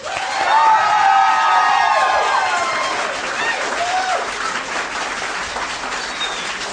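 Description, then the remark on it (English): A crowd votes by applause on whether marijuana should be legalized, bursting into loud, sustained applause mixed with whoops and shrill whistles, holding strong for several seconds before easing slightly while the clapping continues. “How many people here think that marijuana should be legalized by applause?”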